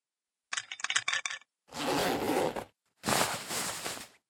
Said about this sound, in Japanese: では、そろそろ、パンツを下ろして、一番匂いが強いところをお出しください。